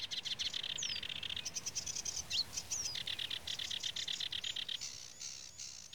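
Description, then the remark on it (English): A sedge warbler pours out a fast, scratchy, chattering song with rapid rattles and whistles, while short single-note calls of a reed bunting break in now and then in the background. “Behind these songs, you can hear the monosyllabic comments of reed bunting, a poor song, it has to be said, but it is his own and no one else's.”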